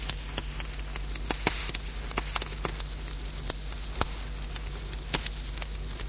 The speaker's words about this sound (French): Un feu dans la cheminée pétille.